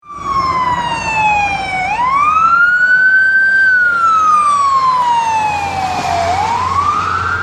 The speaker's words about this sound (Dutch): Dan gebeurt er iets dat lijkt op het Doppler-effect zoals je die hier op aarde kunt horen in dat geval. Dat hoor je bijvoorbeeld als er een ambulance voorbij raast. Die laten we meteen even horen.